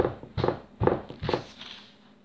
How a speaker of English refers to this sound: Louise stood outside his room and stomped her feet.